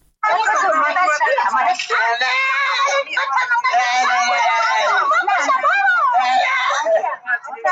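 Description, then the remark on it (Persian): A teenager screams and moans in pain, loud and close, with wavering, strained cries that continue almost unbroken for several seconds, other voices faintly mixed in. “فریاد نوجوانی که آه و نالش به گوش افراد منصوب به پلیس ایران نرسید.”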